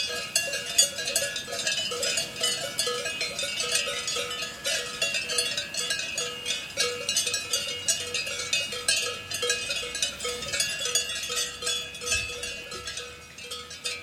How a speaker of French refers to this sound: Emmanuel Carrère, vous nous avez demandé des cloches de vaches valaisannes, donc des vaches d'Airain dans le canton du Valais, dans le sud de la Suisse. On a trouvé des cloches de vaches suisses, ça on peut vous le certifier, et c'est pour illustrer.